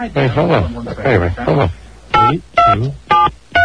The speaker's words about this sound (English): Hold on, I'm going to dial the extension.